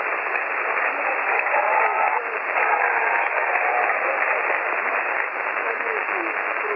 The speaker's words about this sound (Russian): Здоровья, всех вам. 73, мы хлопаем вам.